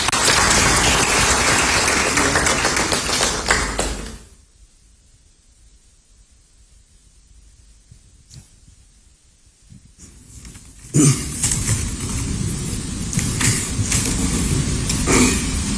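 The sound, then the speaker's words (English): A crowd claps to welcome the representative of WaterAid Ghana, in a dense, steady burst that dies away after a few seconds, leaving a quiet lull before a second wave of loud clapping starts up and carries on to the end. “Please help me welcome the representative of WaterAid Ghana. A big round of applause.”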